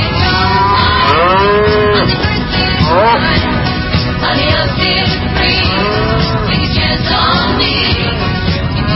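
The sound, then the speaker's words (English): Several cows moo repeatedly and loudly, their long drawn-out calls overlapping against a busy barnyard background with no one speaking. “Get targeted, become a moo cow, and get a flu shot.”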